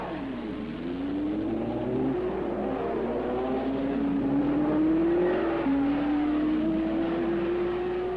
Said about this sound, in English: The 33 speediest service stations in the world each operate in about 10 feet by 5 feet of space along the pit wall in Indianapolis. Fuel is forced into two tanks, tires are checked. As soon as tanks are full, cars head back to the track.